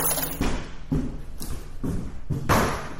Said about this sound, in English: My bag on the floor. Okay, everybody knows my sound. They don't have to see me. They're like, Dad is home.